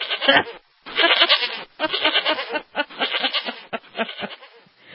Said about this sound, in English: Can I hear that goat again?